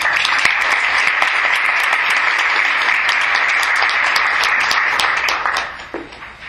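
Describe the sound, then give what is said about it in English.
Steady applause from an audience welcoming speaker Dr. Mary Zanarini: a dense wash of many hands clapping at a constant level for about five seconds, then tapering off quickly near the end. “Please join me in giving a warm welcome to Dr. Mary Zanarini.”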